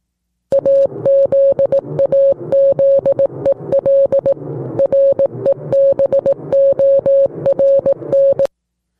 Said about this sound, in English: Is this it? Yeah. I think this is the Morse code right here. All right. So the Morse code is in the system. Now we click play and it will tell us what that Morse code meant.